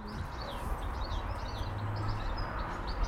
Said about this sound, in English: It might be a chaffinch. Or is it a sparrow? It's probably a sparrow. There's twittering things.